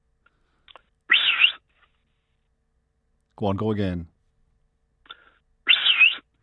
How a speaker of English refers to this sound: Now, to explain to listeners, you run four dogs who respond to that whistle.